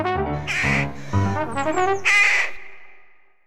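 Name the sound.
crows cawing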